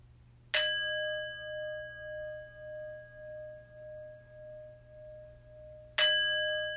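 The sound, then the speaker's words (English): A meditation chime is struck to call listeners to prayerful meditation. It rings out with a long, slowly pulsing shimmer and is struck again about five seconds later. Clear, with no voices and only a faint low hum underneath. “The chimes will call us to prayerful meditation.”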